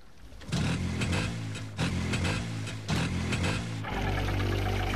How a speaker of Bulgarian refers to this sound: Побързайте да се качим в моторницата. Запалете мотора!